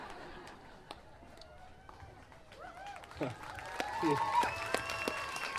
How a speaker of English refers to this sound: You don't have to clap the jokes, though.